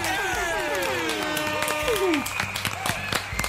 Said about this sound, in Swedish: Vi kör en applåd och lite tuta på det!